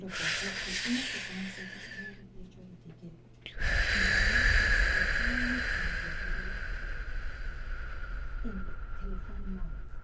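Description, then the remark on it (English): Slow, deep breathing in a breathing exercise: a short airy breath in on a count of three, a brief pause, then a long, steady rush of air lasting several seconds as the breath is let out slowly and evenly, with faint low tones in the background. “So on the count of three, one, two, three, breathing in.”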